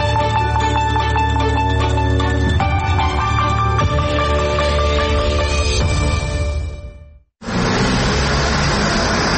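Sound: heavy road traffic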